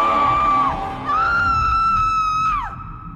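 Two piercing, sustained screams echoing in a shaft, the first brief and the second longer, each sliding down in pitch at the end, with a low rumbling hum underneath and no talking.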